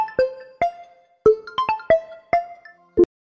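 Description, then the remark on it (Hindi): A phone's melodic ringtone plays for an incoming call, a bright run of about eight plucked, chiming notes in an uneven tune, clear with no voices. “Hello hello hello, कौन लड़की miss call मारती है भाई?”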